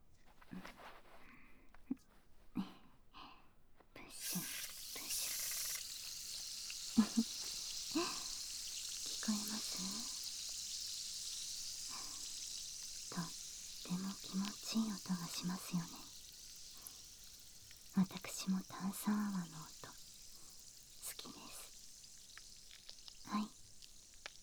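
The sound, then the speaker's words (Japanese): A steady, crackling fizz of carbonated foam used to wash the ears, applied to both ears at once, starts a few seconds in and hisses continuously, with soft whispered speech and faint brushing sounds drifting in and out beneath it. “次はご主人様の好きな炭酸泡でお耳を洗浄していきますね”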